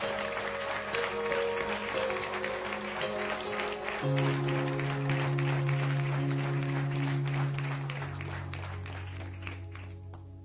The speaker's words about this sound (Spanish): Le vamos a dar un aplauso al Señor por esa obra.